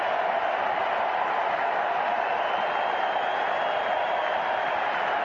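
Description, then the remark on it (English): A large baseball stadium crowd roars steadily, wanting pitcher Jay Zim to strike out the side, a dense, constant wash of cheering and noise at an even loudness throughout, with no single voice standing out. “Listen to this crowd.”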